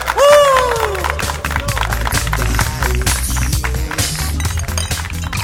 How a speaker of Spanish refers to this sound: Un aplauso para don Harry.